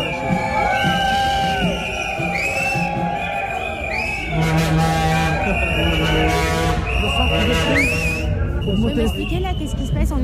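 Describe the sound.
Many shrill whistles shriek and overlap almost nonstop above a loud, dense crowd of protesters at the entrance of the PSA Peugeot Citroën headquarters, with scattered shouts and voices mixed into the steady roar.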